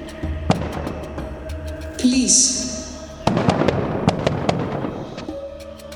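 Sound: firing squad gunshots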